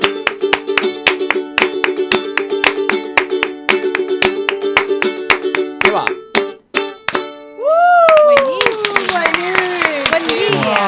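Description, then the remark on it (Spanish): Hands clap in a steady, even beat over a sustained sung or played tone, pause briefly, then keep clapping more loosely while voices talk and exclaim. “¡Aplauso!”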